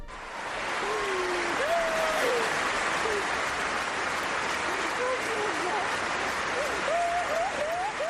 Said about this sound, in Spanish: Qué pena. La ovación del pabellón, las lágrimas de Carolina, porque es una lesión que ya conoce.